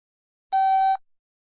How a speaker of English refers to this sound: When you hear the beep in a moment, press pause and press play again when you're standing on the wooden bridge marked point 2 on the map.